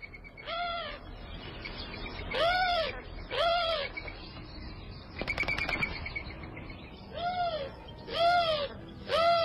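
A bird call from the Audubon Society, repeated harsh, arching screeches grouped in pairs and triplets with short pauses between, clear against a faint background hiss.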